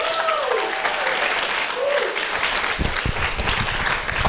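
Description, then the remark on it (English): A crowd applauds steadily, dense clapping filling the whole clip, with a couple of brief whoops rising above it and the clapping growing a little louder toward the end. “Let's hear for that.”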